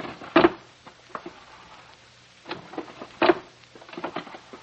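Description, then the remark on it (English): Wooden drawers of a desk in an office are pulled and shoved as they are searched, with two loud knocking thuds a few seconds apart and light clicks, rattles and rummaging in between. No one speaks. “I went to his desk and started to go through the drawers.”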